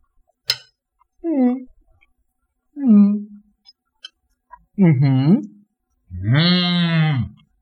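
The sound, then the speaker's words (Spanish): A person makes a series of drawn-out, mooing vocal sounds imitating a cow, four separate calls that grow longer and louder, the last a sustained, wavering moo, preceded by a short click. “Ahí parece una vaca, man.”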